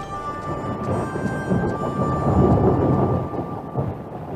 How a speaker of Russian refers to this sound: А тут еще приближалась гроза.